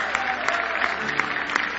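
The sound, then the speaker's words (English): An audience claps together in praise in a steady, dense burst of applause, many hands slapping at once with a few sharper accents standing out, fairly loud and continuous with no voices. “Give him another big hand clap of praise.”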